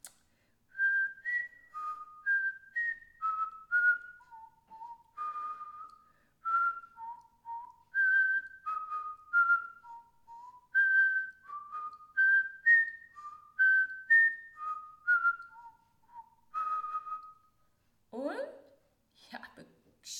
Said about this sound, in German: Dann versuche ich es jetzt mal mit Pfeifen.